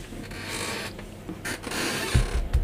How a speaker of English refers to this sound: I love these sounds. Yeah, they're so creaky, these chairs.